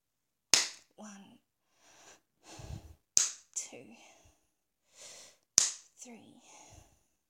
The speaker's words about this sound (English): Oh, I'm gonna spread my legs wider and slap my clit 5 times.